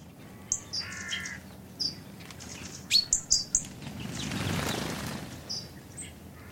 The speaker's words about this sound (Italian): Io ricordo molto il rumore degli uccelli, loro cantare.